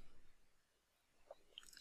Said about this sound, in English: I'm getting a sip of my water.